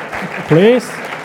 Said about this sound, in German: Wow, danke vielmals. Können wir euch einen Applaus geben und merci.